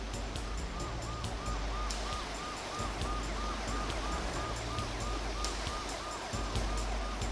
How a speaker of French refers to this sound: Après, on n'entendit plus que la pluie tomber, puis le bruit des sirènes dans la nuit.